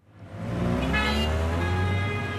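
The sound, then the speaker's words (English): Dense traffic rumbles along the winding, car-choked streets of La Paz, a steady roar of engines with a car horn sounding briefly over the din, and no one speaking. “to go to and from work along the winding, car-choked streets of La Paz.”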